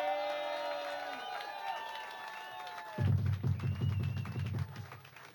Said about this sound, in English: Round of applause.